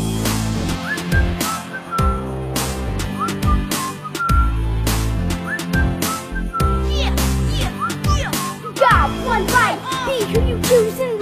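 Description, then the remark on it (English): A person whistles a bright, bouncy melody over a steady drum beat and deep bass, the whistled line rising and falling in quick phrases, clear throughout. “I just put my lips together and the world's on my shoulders. And I whistle, baby, here I go.”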